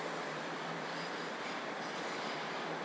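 train leaving the station

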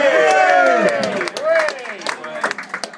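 audience applause and cheering

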